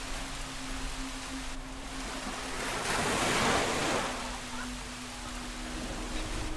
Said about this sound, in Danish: Det regnede. Og bølgerne slog mod stranden.